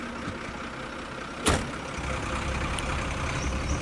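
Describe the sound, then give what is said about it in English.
A truck engine rumbles steadily as the truck drives towards a dockyard, with a brief sharp burst of noise partway through before the engine's drone continues. No one speaks. “gets in the truck and drives towards the destination where they could land the boat at the dockyard.”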